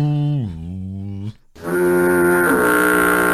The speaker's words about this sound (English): And then we heard that foghorn. Lately, I've been using that sound effect a lot. Well, I like the sound of the foghorn, that deep.